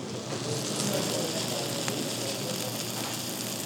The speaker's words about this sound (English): And it all comes out on the steaming hot platter. The whole thing smokes up the room and crackles as it comes towards the table.